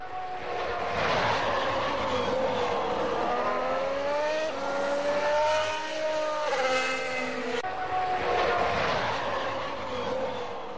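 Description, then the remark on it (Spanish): A Ferrari Formula 1 car engine screams loudly and continuously on track, its high-pitched whine rising and falling through gear changes as it passes by, with no voices. “Y nos queda un motor y un coche que quiero que me analices con lo que tú viste a pie de pista. El Ferrari.”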